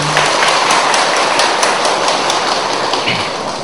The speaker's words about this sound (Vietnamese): Như vậy thì xin tán thán quý vị Phật tử bằng một tràng pháo tay.